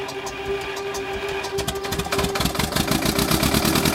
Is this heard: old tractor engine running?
yes